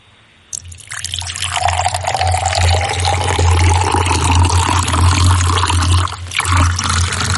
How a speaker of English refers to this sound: when you want him to start pouring, and then you just need to shout, stop.